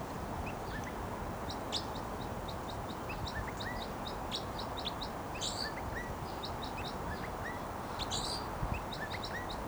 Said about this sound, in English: Flight song there by the wild bird who's vocalizing, and he just moved to another perch.